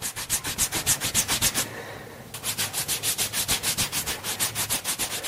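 Rapid, rhythmic rubbing strokes of a gel-soaked cotton wipe, a waterless dry-bath wipe made by dripping water onto a pill from a sachet, swept back and forth over arms to clean them, a steady brushing texture that pauses briefly midway before resuming at the same pace. No voices.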